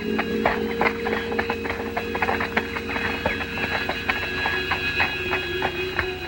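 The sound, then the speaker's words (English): Horse hooves clip-clop steadily at a walking pace as horses are led through a deserted alley inside castle gates, several sharp knocks repeating in an uneven rhythm over a constant background hum, with no voices. “Inside the gates, they lead their horses through a deserted alley.”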